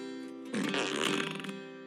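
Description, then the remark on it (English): A truck starts up with a loud, buzzing, fart-like blat lasting about a second over a steady droning hum, which then settles back to the idle drone. “There's something kind of special about this truck. It makes a fart noise when you start it up.”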